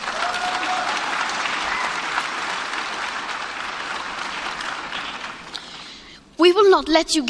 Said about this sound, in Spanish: Y si eligen fallarnos, nunca los perdonaremos. La gente aplaude.